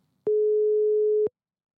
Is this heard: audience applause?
no